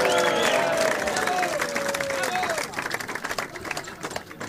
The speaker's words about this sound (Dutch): Graag jullie applaus voor de 10 praatzieke personen die hier gestaan hebben.